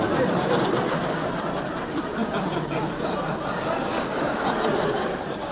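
A steam train rumbles along steadily, a dense, loud roar of chugging and hissing that holds at an even level throughout, with no voices.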